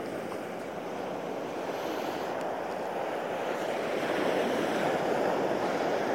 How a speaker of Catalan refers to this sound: Avui faig aquesta breu reflexió ben bé davant del mar de Calella, per això potser està sentint el so de les onades.